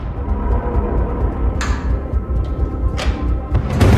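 A house door is opened by a man using a tissue as he leaves, then shuts, with a few sharp latch clicks and knocks standing out over a steady low rumble. No one speaks.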